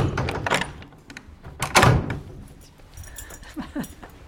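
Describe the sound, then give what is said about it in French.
An old, heavy cloister door of an old house is worked: a couple of loud clattering thumps and latch rattles, then brief creaks of the hinges as it swings, with no one speaking. “Donc ici, c'est la porte de clôture. Symboliquement, c'est par là qu'on rentre et qu'on sort. C'est aussi une vieille porte.”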